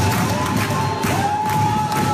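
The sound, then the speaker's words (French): A loud, dense crowd of Extinction Rebellion protesters chants at a climate demonstration in Paris, voices blending into a steady roar broken by a few dull thumping beats. “Et oui, alors si vous êtes à Paris ces prochains jours, oubliez le bruit des klaxons, le chant des bennes à ordures ou la symphonie du camion de livraison, vous risquez plutôt d'entendre ce genre de choses.”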